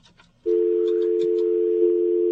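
signal or alarm, telephone dial tone

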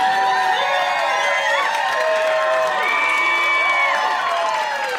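crowd, crowd cheering

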